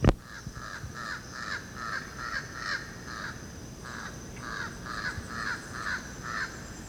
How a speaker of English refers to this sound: That's Jabbering Crow. Now it's flying across the open space. It's only one of them.